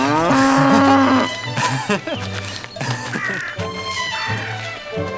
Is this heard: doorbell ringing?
no